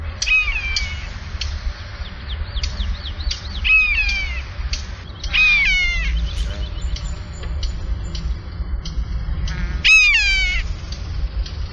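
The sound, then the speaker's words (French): A common buzzard gives a series of high, plaintive mewing calls, each slurring downward in pitch, some overlapping in quick clusters, over a steady low rumble of background noise. “Son chant ou son cri est constitué d'un miaulement plaintif qui dure environ 2 secondes, qui est puissant, d'une tonalité élevée, mais dont l'intonation a tendance à baisser vers la fin.”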